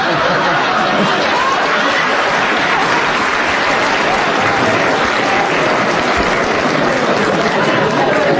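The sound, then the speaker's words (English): Sustained applause from a live audience, a dense, steady wash of clapping that fills the whole stretch at constant loudness, with faint crowd murmur underneath, given for a woman forced to leave because the programme had gone on so long. “I must explain to our listeners that that round of applause was for a lady who was forced to leave because the programme had gone on so long.”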